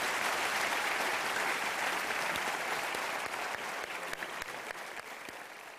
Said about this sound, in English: Thank you for that modest applause.